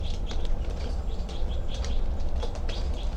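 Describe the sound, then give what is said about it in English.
A bird flutters, its wings flapping in quick repeated bursts as it flies and lands on another bird's wire cage, over a steady low background rumble. “Now she's looking down at 3-2-7's cage. Landed on 5-9's cage.”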